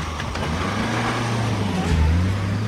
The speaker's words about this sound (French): Oh putain! Ma voiture! Elle se tire avec ma bagnole!